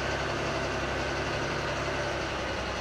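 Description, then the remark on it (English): An off-road truck engine, its tires aired down to about 35 PSI, runs steadily at idle: a continuous low rumble with a broad mechanical hiss over it, unchanging for the whole few seconds, with no voices. “That's the great thing about this truck.”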